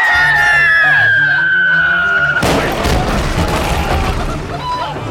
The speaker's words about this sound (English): Did you hear that? It sounded like an explosion. We! And there's the whistle of a shell. Uh-huh. And it's getting louder. Cannonball!